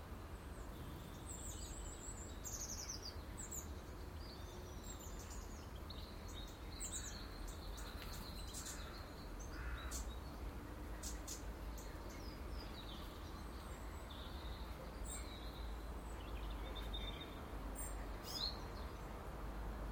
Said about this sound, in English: An intruding blackbird has come in for some porridge. A cock, and quickly followed by a hen, which is not the hen of my garden.